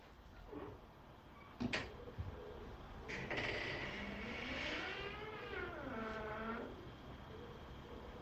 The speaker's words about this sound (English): That door creak was mad. Tell me you heard the door creak, because that's what it was.